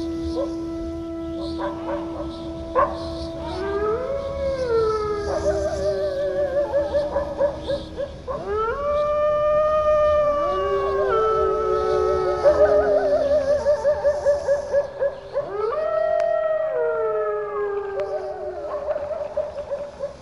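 Several wolves howl together in an overlapping chorus, long wavering wails that rise, hold and slide down. The howls carry on without pause for about twenty seconds, fairly loud.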